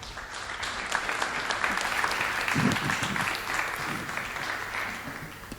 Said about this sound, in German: Einen großen Applaus für Dr. Fitschen, bitte.